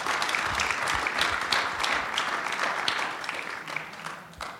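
A church audience applauds steadily one morning, giving a clap offering to the Puerto Ricans present. Dense, overlapping claps hold at a fairly loud, even level before thinning out slightly toward the end.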